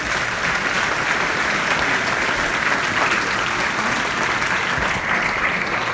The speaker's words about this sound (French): Et je pense qu'on peut vraiment le remercier et l'applaudir.